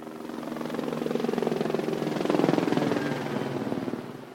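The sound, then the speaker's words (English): Four law enforcement helicopters fly overhead, marking the end of a ceremony at MIT in Boston, with a steady, rapid rotor thump that swells louder toward the middle and then eases slightly, with no voices present. “A state trooper played taps, and four law enforcement helicopters flew overhead, marking the end of the ceremony.”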